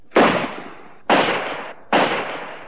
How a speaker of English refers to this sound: It was when we got into the mobile crane that the first shot was fired.